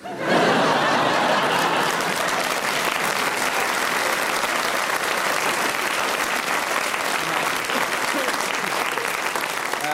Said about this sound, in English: It's very nice that you clap, because nobody clapped when I told on them in class. It's very therapeutic for me, so thank you very much indeed.